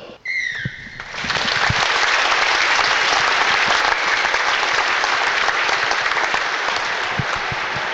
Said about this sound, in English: please be of standing for a minute's applause in celebration of the life of Ronan Costello.